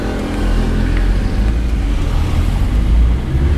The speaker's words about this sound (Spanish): Y en frío, que claro. Está el coche frío. Fíjate que no se escucha nada a ralentí, ¿eh?